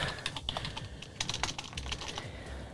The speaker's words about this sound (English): Can you hear the clicking of the computer there?